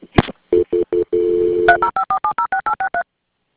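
Telephone transfer tones as a call is transferred to FWC, the Florida Fish and Wildlife Conservation: a few short low beeps and a longer held tone, then a quick, evenly spaced run of about ten higher dual-tone dialing beeps, with no talking.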